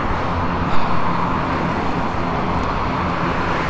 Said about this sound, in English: Ooh, so many cars on this vacation.